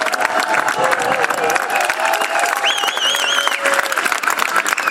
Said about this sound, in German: Ja, einen herzlichen Dank an das Jugendbündnis zum ersten Mal. Noch einen großen Applaus für euch.